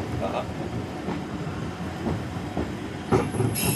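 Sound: train running on rails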